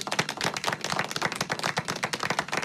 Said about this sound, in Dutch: Ja, met applaus erbij vandaag.